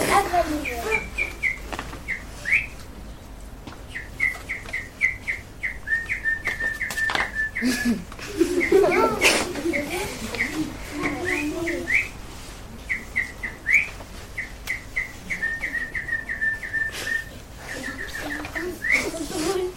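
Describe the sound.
A person whistles an imitation of their former pet bird's chirping, repeating quick high tweets in bursts, with a brief lower vocal warble in the middle, fairly loud.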